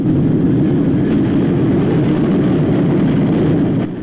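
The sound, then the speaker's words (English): A train rumbles past inside a tunnel, a loud, steady low roar that fills the whole stretch without letup before easing slightly at the very end. No voices. “The two men squint against the dust as the train goes past.”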